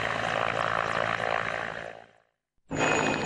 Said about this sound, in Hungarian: Egyébként helikopterek és lánctalpasok dolgoznak itt végig, a helikopterek egész éjszaka dolgoztak, most már itt mögöttem 4 van.